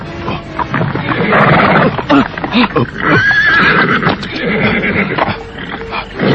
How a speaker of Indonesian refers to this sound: Aneh sekali. Kenapa kuda ini tiba-tiba saja meringki-ringki ketakutan, Kakang? Sepertinya dia melihat sesuatu yang menyeramkan, Kakang.